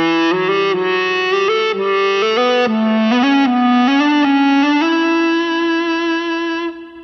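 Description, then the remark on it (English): An Ebow-driven electric guitar, the Ebow held stationary to keep the string vibrating, holds one smooth, singing tone that steps up through an ascending scale of hammered-on notes, with no picked attacks between them. It stays loud and steady, with no voices. “The Ebow keeps the string vibrating under your fingers, so you don't have to pick each note.”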